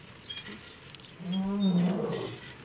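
lion roaring

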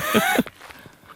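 footsteps walking

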